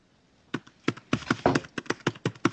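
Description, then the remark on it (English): Rapid, uneven clacking of keys being struck on a computer keyboard, about a dozen sharp taps in a couple of seconds, fairly loud and with no voices over them. “Is that his keyboard? Yeah, it sounds like he's typing on my inner ear.”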